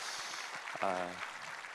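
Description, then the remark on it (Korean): A church audience applauds in a dense, steady wash of clapping that lasts throughout, with a short voiced call rising briefly above it partway through. The applause thanks the college-age young adults for their work. “우리 수고한 대학 청년들에게 한번 감사의 박수를 부탁합니다.”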